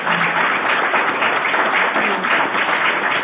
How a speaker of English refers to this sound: A round of applause for our panel, please.